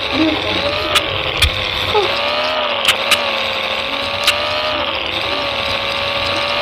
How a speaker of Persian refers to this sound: باشه منم میرم دیگه. من برم با ماشین دور دور کنم.